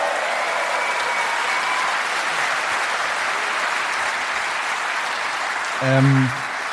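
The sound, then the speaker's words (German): Sustained audience applause for the speaker's mother, a dense, steady wash of clapping from many hands that fills the whole stretch, with a brief tonal cry or whistle rising over it near the end. “Applaus Simone, für meine Mom”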